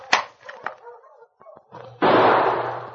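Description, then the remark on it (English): A loud gunshot, fired at a man traveling with a dog team, suddenly bursts out and leaves a harsh, noisy roar that slowly fades over the last second, after two fainter, sharp cracks earlier on. “I shoot him after I shoot his master.”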